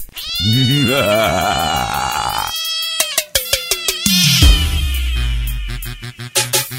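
A cat lets out a loud, drawn-out, wavering meow close by, followed by a burst of sharp clicks and a low rumbling noise, with no one speaking.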